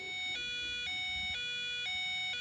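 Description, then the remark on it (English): A squeezed toy duck, marked United States Embassy, Iraq on the back and duck and cover on the front, blares an electronic two-tone siren, steadily alternating between a high and a low pitch about every half second, loud and buzzy with no talking over it. “And if you squeeze it, this is what happens.”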